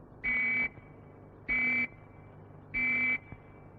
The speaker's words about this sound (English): Or you may hear three whistles, like this.